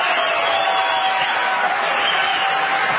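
Crowd applause in South Carolina: a dense, steady wash of clapping from many hands, holding at an even, fairly loud level for the full three seconds with no voices standing out.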